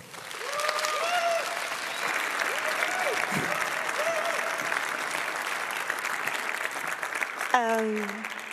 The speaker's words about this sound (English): I'm really impressed, and I hope you are too. Please give a very, very warm applause